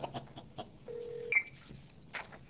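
Telephone keypad tones sound faintly as someone dials a second phone during a meeting: a steady half-second electronic tone followed by a short, higher blip, against quiet background noise with no talking.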